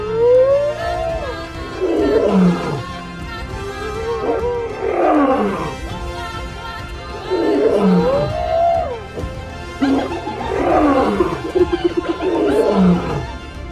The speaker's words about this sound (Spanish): Las baterías de nuestros focos se agotaban, así que tuvimos que conformarnos con escuchar durante la noche un atronador retumbar de carreras, rugidos y reclamos.